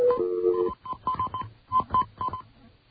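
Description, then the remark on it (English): A quick string of telephone dialing tones as a call is placed to directory information in Jenkintown: short, even beeps pairing a steady high tone with lower ones, about eight presses in rapid succession after an opening longer tone, with no talking. “All right, I'm going to hook you to information in Jenkintown.”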